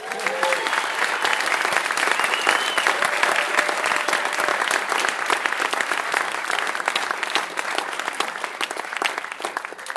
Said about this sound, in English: Give a round of applause for our filmmakers.